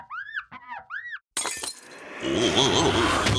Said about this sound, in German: Oh Mist, jetzt ist mir die Flasche runtergefallen.